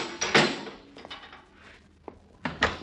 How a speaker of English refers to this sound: Okay. Shut the door after you,